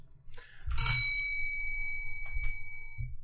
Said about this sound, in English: We have a new addition to the Damn Art Majors team. It's a buzzer. Whenever you hear this buzzer, it signifies something cool is going to happen.